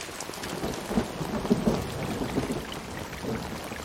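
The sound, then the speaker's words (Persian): Steady rain hisses throughout, with low rumbling swells of thunder rolling underneath, peaking briefly around the middle before settling back. No voices are present. “بارون رد پاشو پاک کرد.”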